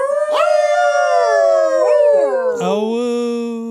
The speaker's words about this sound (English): Howl noise.